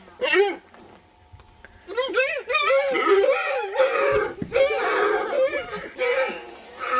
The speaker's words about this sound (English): More screaming deer in a pen if you want to know what screaming deer sound like.